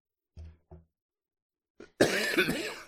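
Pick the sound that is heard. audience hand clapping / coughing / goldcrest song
coughing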